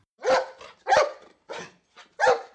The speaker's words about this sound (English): This is my dog, Sherlock. He's a crazy dog.